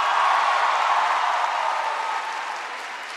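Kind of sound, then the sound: crowd, crowd applause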